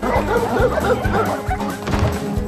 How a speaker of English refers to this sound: As Christus bursts in the house looking for his gun, the dogs chase after Russell and Brian.